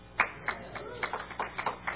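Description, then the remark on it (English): Sparse, scattered applause from an audience: a handful of uneven claps at roughly quarter-second intervals, fairly quiet, with no voices. “Well, thanks for the applause.”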